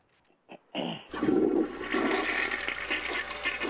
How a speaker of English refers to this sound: Oh. And flush.